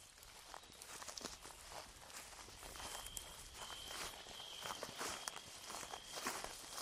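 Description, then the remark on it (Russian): Soft, steady footsteps crunch over the ground at a walking pace right beside a tent, far from the main trails, quiet, with a thin high whine faintly in the background and no voices. “Звук, похожий на шум шагов рядом с палаткой, вывел меня из полусна.”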